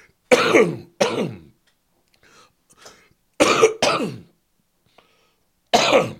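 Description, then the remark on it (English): A person coughs and clears their throat in harsh, raspy bursts, mostly in pairs with short quiet gaps between them, and no talking. “I want to shout out to that cough to give me the delay I needed”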